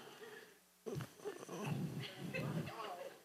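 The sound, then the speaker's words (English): A person's voice imitates an ape with a run of low, rough, guttural grunts, fairly loud, starting after a brief hush and continuing in uneven bursts. “Got me up here sounding like Caesar.”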